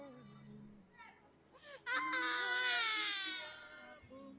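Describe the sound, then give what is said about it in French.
A man bursts into a loud, sustained wailing cry lasting nearly two seconds, strained, after a few quieter vocal sounds and murmurs, crying deeply during a deliverance prayer. “Le diable, il pleure profondément. Pourquoi il pleure?”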